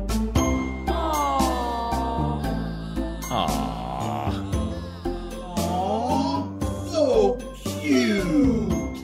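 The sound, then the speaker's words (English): A syrupy 'aww' sound effect: a chorus of voices swooping in sighing, gliding 'aww' tones over a tinkling, chiming backing, repeating several times for about nine seconds. “can we sound cue in awe there? Like the most obnoxious cutesy.”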